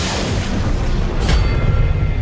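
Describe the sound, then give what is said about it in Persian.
A loud bomb explosion rumbles with heavy, dense low-end roar, swelling into a brief burst midway and staying thick and sustained to the end, with no voices. “به رئیس بگیم تو انفجار کشته شده.”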